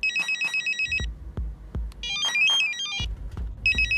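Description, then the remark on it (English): A hospital pager's electronic alert tone sounds in repeated bursts of rapid, high-pitched warbling beeps, loud and insistent, with soft low thumps pulsing underneath and no voices. “When I get a page, sometimes my palms will get sweaty and I just have this feeling of dread of like, oh God, what is this?”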